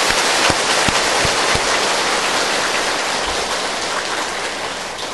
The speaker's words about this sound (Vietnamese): Xin quý tán thưởng chung một tràng pháo tay nhiệt liệt.